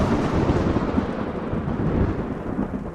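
A deep, continuous rumble of thunder from lightning bolts striking down from a cloud at small boats rolls on without pause, loud, with no voices over it.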